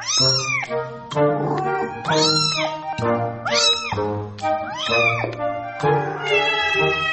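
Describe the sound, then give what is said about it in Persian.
A cat meows loudly and repeatedly, around five drawn-out, rising-and-falling cries in quick succession, with no talking. “چنانکه آقای دریزین می‌گوید کاربران تاکنون با استفاده از این برنامه 1 میلیارد میوی متفاوت گربه‌ها را بررسی و ترجمه کردند.”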